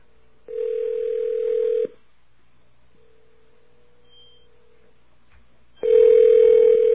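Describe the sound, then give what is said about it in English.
A telephone line tone sounds in steady, buzzing bursts as a code is entered and a number is called back to see whether it forwards to a Sprint phone: one clear tone, a fainter stretch of the same pitch, then a loud tone returns as the call goes through. No one speaks. “Enter our secret code, and here we go. Which phone will ring, if any?”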